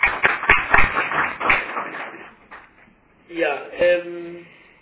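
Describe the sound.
A short burst of scattered clapping from a small group, uneven and fading after a couple of seconds, followed by a voice beginning to speak.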